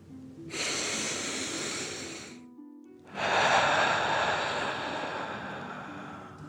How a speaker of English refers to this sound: Breathing in through your nose and breathing fire out your mouth. Again, deep breath in and out. Last one, fill up your belly.